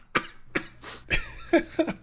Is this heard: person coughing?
yes